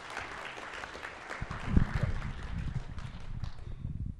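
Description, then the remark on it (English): A crowd breaks into steady applause for the team behind the game Alien Pinball, a dense patter of many hands clapping that swells after the first second and holds at a fairly loud, even level to the end. “So can we have a round of applause for our team, please?”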